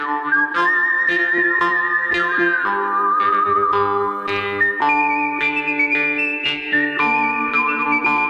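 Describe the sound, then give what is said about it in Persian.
A clear, loud whistled melody with sustained, gliding notes, carried over a full orchestral backing with steady plucked and bowed accompaniment, from a western film score by an Italian composer; no one speaks. “آهنگسازی فیلم‌های وسترن خیلی معروفی رو انجام داده، مثل یه مش دلار، خوب بد زشت، همون ملودی‌های خیلی معروف از سوت استفاده کرده”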